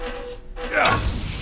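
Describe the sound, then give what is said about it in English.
A single sharp sneeze bursts out partway through, loud, a quick breathy explosion that trails off into a brief voiced tail before quiet background returns. “Bless you.”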